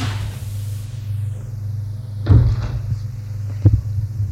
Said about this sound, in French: Il appuie au hasard sur le bouton du bas. La porte de l'ascenseur s'est ouverte.